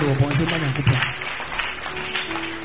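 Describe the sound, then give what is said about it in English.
An audience claps their hands for God together in a dense, steady wash of hand claps, with voices and shouts mixed in beneath and around the clapping throughout. “Clap your two hands for God.”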